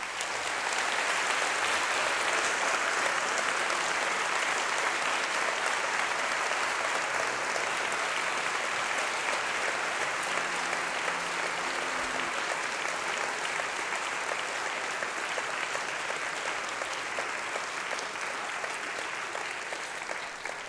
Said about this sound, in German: Und ich glaube, ihr habt euch alle insgesamt und alle Teams, die heute beigetragen haben, noch einmal einen lauten Applaus verdient.